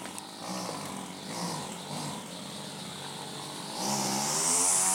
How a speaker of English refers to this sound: I think that's a chainsaw. And it's in the school grounds. Let's go outside and you can hear it because it's full volume.